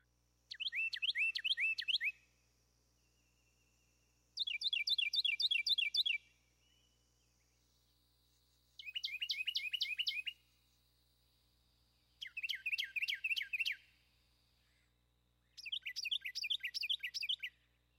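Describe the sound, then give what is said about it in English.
A Carolina wren sings five loud, rolling tea-kettle phrases, each a rapid run of repeated three-note syllables, separated by short pauses, with a faint steady hum underneath. “And compare that to a three-syllable Carolina wren, who typically sings tea kettle, tea kettle, tea kettle.”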